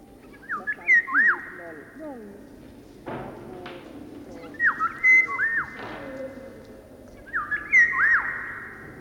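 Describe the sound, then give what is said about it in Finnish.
A bird perched on a person's shoulder chirps and whistles, three bright rising-and-falling whistled phrases spaced a few seconds apart, with softer lower chirps and rustling in between. “No joo, mulla on lintu olalla, mutta eihän se...”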